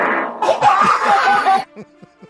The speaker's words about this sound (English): This is a fart.